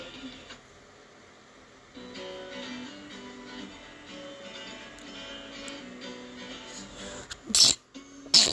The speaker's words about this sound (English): I ain't gonna lie, I sneezed on air. Bless you.